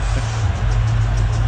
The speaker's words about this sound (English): And if you didn't hear it, I have, of course, the crowd reaction. So you hear the crowd cheering. This is as the bird flies away toward third base.